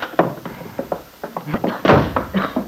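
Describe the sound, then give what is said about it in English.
A farmhouse kitchen door bursts open with a loud wooden bang as a man bursts through it, surrounded by a quick series of sharp thumps and clatters, like hurried footsteps. “burst through the kitchen door.”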